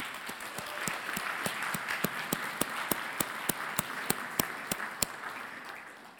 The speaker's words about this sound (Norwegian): Kan vi ikke gi en applaus